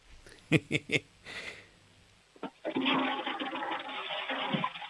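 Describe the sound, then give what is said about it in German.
Three quick knocks and a short hiss, then a toilet flush bursts into a loud, steady rush of water that keeps roaring until the end. “Das ist mal eine tolle Klospülung von der Milena.”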